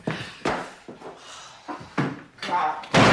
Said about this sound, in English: She slams a door.